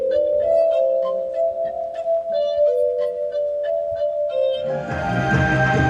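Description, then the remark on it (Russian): Sustained, ringing crystal tones of a verrophone, a glass-organ-like instrument played in concert under the dome of the Kyiv planetarium, hold steady and pure, with faint shimmering overtones, before a louder, brighter burst of layered glassy sound swells near the end. “Это подобие стеклянного органа называется верафон, и он, согласитесь, издает поистине хрустальный звук.”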